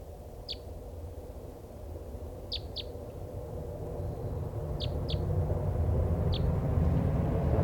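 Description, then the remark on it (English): A free-flying bird, the one still uncaught from a flock of five, gives about six short, sharp, high-pitched call notes that sound like a type three, some in quick pairs, spaced irregularly over a steady low rumble of background noise. “This is the one still free. It sounds like a type three.”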